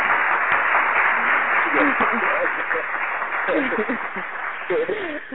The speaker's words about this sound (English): I like the applause. Yes, you got to get applause when people call in and showing love and doing their thing.